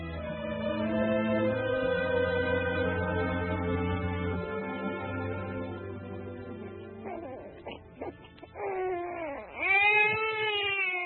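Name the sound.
newborn baby crying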